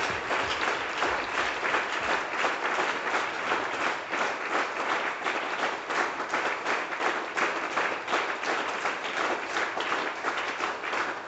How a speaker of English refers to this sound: Now we can thank him with our hand clap. For the good time he brought for us.